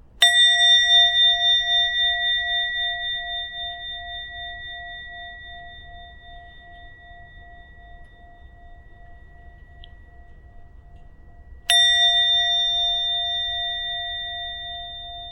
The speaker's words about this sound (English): another opportunity to listen, but this time to the bell. Try to listen to it as attentively as you can, just listening without thinking what's going to come afterwards or what happened before. Just follow the sound of the bell.